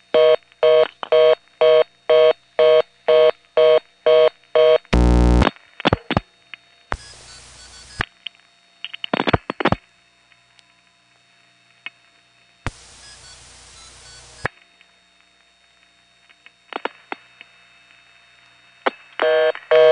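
Telephone phreaking: a rapid string of multi-frequency dialing tones, evenly spaced beeps as 212770 is dialed, followed by bursts of hissing noise, clicks and a steady high tone, with further short tone bursts and static.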